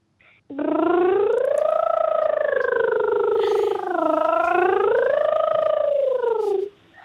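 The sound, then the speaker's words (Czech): A child's voice imitates a motorcycle with a steady buzzing lip sound for about six seconds as a speech warm-up exercise, its pitch rising and falling in smooth revving swoops before cutting off. “zvládnul by si udělat takovouhle motorku?”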